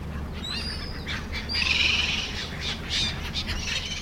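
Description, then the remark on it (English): Seagulls squawk around the lake in Södertälje, Sweden, as Sweden's oldest lock goes into operation, in a few harsh, high bursts over a steady low rumble, with a louder cluster of cries partway through and no one speaking. “Seagulls flap around Södertälje's lake as Sweden's oldest lock goes into operation.”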